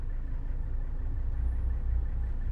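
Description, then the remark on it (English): Steady low-frequency road rumble and engine drone as heard from inside a moving car in light traffic while trying to get onto the Lincoln Tunnel extension, a continuous muffled hum with no voices. “And a little bit of traffic here as we try to get on to the Lincoln Tunnel extension.”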